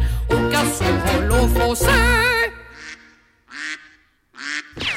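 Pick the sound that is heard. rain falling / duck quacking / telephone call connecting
duck quacking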